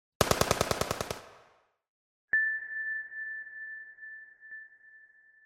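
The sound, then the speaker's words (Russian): A short machine gun burst of about ten rapid, sharp shots that fades out, fired by Tessei as a further, more carefully aimed burst under low vaults in corridors, followed after a pause by a sudden click and a long, steady high-pitched electronic tone. “Тессей выдохнул, прицелился более тщательно и выпустил еще одну очередь.”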